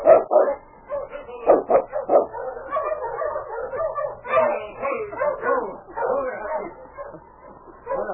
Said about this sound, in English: A short time later, he heard the dog teams coming and saw Sergeant Preston and the constable in the distance.